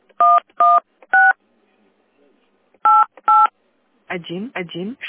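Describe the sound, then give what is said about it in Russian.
Five short, loud two-note telephone keypad tones entering extension number 11688 on the automated phone line of the Metro Cash & Carry centre on Kosygina Street, St Petersburg: three quickly, then a pause and two more, before a voice starts speaking. “Введите дополнительный номер вызываемого абонента.”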